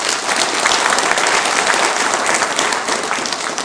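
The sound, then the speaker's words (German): Steady, dense applause from an audience fills a reverberant church, many hands clapping continuously at an even loudness for several seconds for the organist and the trumpeter, with no voices standing out. “Karl-Heinz Schütte mit der Trompete, haben auch einen ganz kräftigen Beifall verdient”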